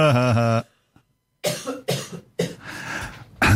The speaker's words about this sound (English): Sorry. You're going to cough, aren't you?